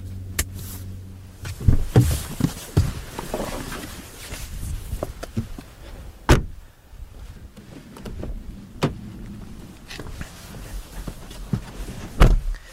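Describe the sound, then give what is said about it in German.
The front door of a BYD car slams shut several times, each a solid thump spaced a few seconds apart, with low rumbling and faint handling noises in between and no talking. “Auch die vordere Tür klingt richtig gut.”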